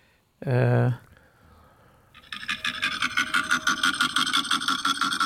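A koala bellows, played from a mobile phone held in front of a microphone: a short, loud harmonic groan, then a long series of rapid, rasping, snore-like pulses that grind on rhythmically with a buzzy, engine-like texture.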